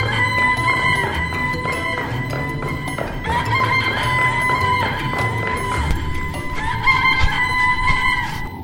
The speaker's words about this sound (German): Der Hahn, der von dem ganzen Lärm aufgeweckt wurde, fing an zu krähen, so laut er konnte.